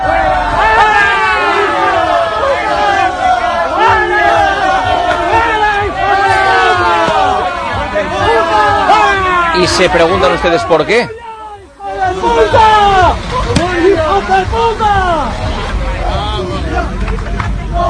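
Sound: football fans shouting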